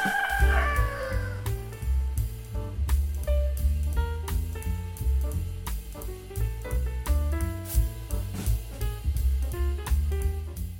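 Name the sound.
rooster crowing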